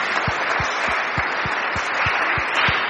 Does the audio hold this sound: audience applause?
yes